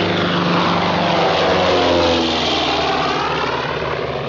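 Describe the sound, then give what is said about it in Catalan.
The Clipper, a propeller airplane to America, passes overhead with a loud, steady engine drone and a throaty rumble, its tone slowly sliding in pitch over about four seconds. No one speaks. “The Clipper to America.”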